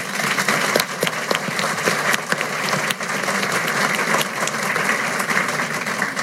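Sustained applause from a sizable crowd fills the whole stretch, a dense, steady wash of many hands clapping at once with occasional sharper individual claps standing out, no voices on top.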